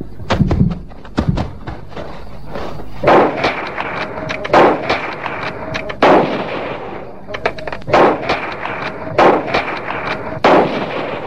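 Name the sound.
rifle gunshots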